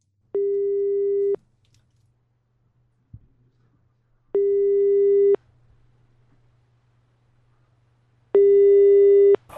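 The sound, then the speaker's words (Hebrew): A telephone ringing tone for a prank call from a clinic sounds three times, each steady, mid-pitched buzz lasting about a second with roughly three seconds of quiet between, over a faint low hum. No one speaks. “והנה עכשיו גם... חיוג מהמרפאה.”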